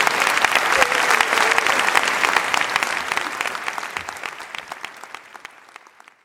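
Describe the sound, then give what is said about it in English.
An audience applauds Ruth Marcus with dense, crackling clapping that starts strong and gradually thins and fades over several seconds, with no talking over it. “All right, let's have a round of applause for Ruth Marcus.”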